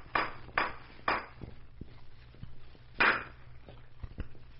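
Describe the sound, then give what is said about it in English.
A blacksmith hammers a horseshoe being fitted on Colonel Murdoch's horse: three sharp, ringing metal blows in steady rhythm, a pause with lighter taps, then another loud strike followed by a few softer knocks. No one speaks. “Wait till I get this shoe on here.”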